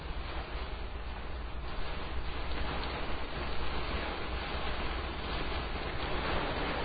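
Heavy Pacific Northwest storm rain drums steadily on a car roof, heard from inside the car, a dense, continuous hiss-and-patter that stays loud and even throughout, with no voices and no pauses.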